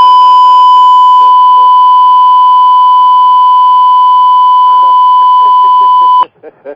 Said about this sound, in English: That was the longest beep I ever heard. I was like, what is going on? I almost lost my hearing.